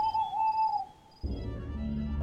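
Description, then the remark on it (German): An owl gives one long, steady hoot lasting under a second, clear against a quiet background, then fades out as a low rumbling noise takes over. No one speaks. “dachte daran, dass ja auch Uhus und Eulen solche Geräusche verursachen konnten.”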